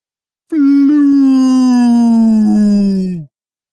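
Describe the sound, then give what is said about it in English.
A single loud, blaring warning tone from a warship's loudspeakers as it hovers over a beach holds steady for nearly three seconds, its pitch sagging slightly before it cuts off abruptly. Nothing else is heard. “It began blaring a warning through loudspeakers as it hovered over the beach.”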